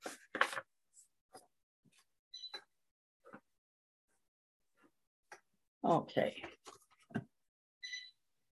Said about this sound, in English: you could also just draw a simple picture on a piece of paper.